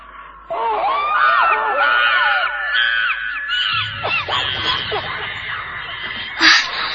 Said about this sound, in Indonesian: Karena aku mendengar suara monyet. Tapi aneh, suara itu begitu menakutkan.